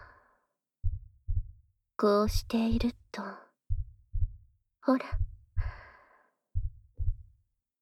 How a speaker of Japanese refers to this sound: 聞こえる？ママの心音。ママには、君の心音が聞こえてるよ。